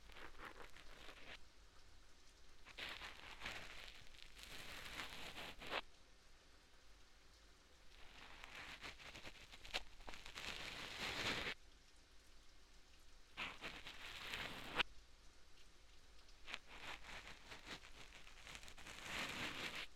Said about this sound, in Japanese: それにしても、やみませんね、雨。